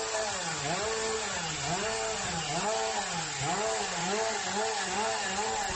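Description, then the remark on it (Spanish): A chainsaw, brandished by a man during a fight in Vilalba, runs steadily and loud, its whining pitch swelling and dipping in repeated revs about once a second, with no voices. “En el momento que transcurría todo esto, había dos personas tendidas en el suelo, dos estaban teóricamente persiguiendo a otro, uno blandía la motosierra y también se oían gritos.”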